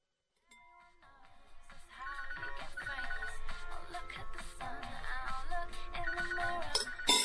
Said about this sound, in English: your phone again.